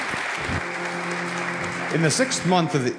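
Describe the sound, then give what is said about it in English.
A crowd claps steadily for the narrators of the Christmas story in a dense, continuous wash of applause that holds for the whole stretch, with voices rising over it toward the end. “So, would you please give a round of applause to our narrators for the Christmas story?”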